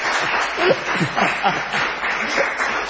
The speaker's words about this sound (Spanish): No aplaudan que no, ¿eh?